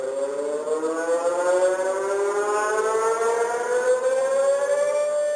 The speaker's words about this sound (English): This is the alarm sound that is supposed to warn Chileans of tsunamis. But on the 27th of February 2010, it did not warn anyone.